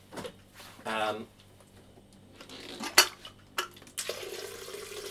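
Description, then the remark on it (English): A metallic clank and some kitchen clatter, then water from a tap gushes steadily into a kettle, fairly loud, continuing to the end, as the kettle is filled to make a cup of coffee. “Fill up the old kettle with water.”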